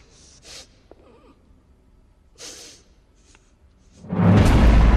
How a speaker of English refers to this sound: She drops down her gun, switches it off, and begins to whimper. She sniffs at the air for clues, but Drake stands right behind her.